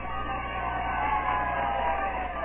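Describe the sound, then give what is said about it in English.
A small crowd of about 100 people gives a scattered, ragged cheer as Lieutenant Kelly salutes them after his court-martial, a steady wash of mixed voices and shouts holding at an even level for a couple of seconds on a muffled, band-limited recording. “Ragged chair. Kelly salutes the crowd, about 100 people.”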